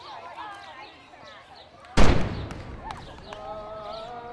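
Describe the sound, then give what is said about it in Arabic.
A single loud boom of the iftar cannon, fired before the Maghrib call to prayer, bursts out midway and rolls off in a fading rumble, with voices and a tonal, sung-sounding line audible before and after. “وكأن مدفع الإفطار السابق الأذان المغرب منقذ المنتظر”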